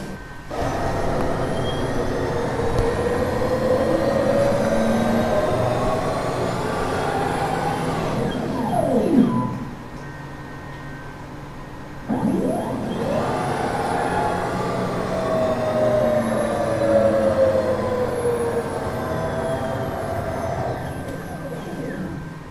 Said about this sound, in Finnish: Tässä ei hurise lentokone eikä ihmisen tutkimuslaite, vaan skanneri. Sen avulla kartta muunnetaan digitaaliseen muotoon.